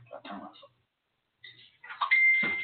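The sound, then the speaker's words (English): A phone's electronic notification tone sounds as one steady, high, sustained beep, fairly loud, over muffled voices and background noise after a brief pause. “Somebody's got his phone on.”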